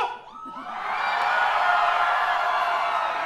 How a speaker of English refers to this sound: Listen to all those people still alive. Scream for me, San Francisco!